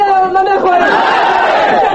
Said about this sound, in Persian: مردم چه می خواهند و چرا فریادها بلند می شود؟ مظاهره کنندگان از بیداد فساد در دستگاه دولتی به سطوح آمدند.